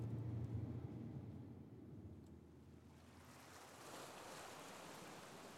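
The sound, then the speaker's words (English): Steady surf rolls in from the sea at a beach, a soft continuous wash of waves with a gentle breeze and low wind rumble at first, growing brighter and fuller partway through. No voices. “Eventually, they arrived at the beach, where there was a welcome, gentle breeze off the sea.”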